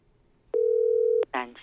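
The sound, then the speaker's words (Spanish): A single steady telephone ringing tone on an outgoing call, the third ring, a clear, even beep lasting under a second, followed right away by a recorded voicemail message starting to speak. “3 tonos.”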